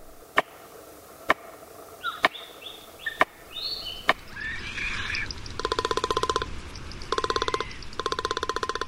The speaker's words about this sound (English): A tree banged with a stick held in a beak. Palm cockatoo.